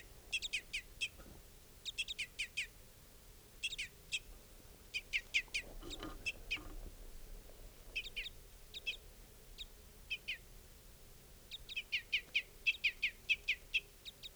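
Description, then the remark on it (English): Adult birds, including a female, call at a camp in repeated bursts of sharp, high chirps, each cluster of several quick notes, recurring throughout over a faint steady low rumble with no talking. “Adults also calling now.”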